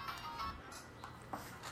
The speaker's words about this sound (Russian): О. Звонят.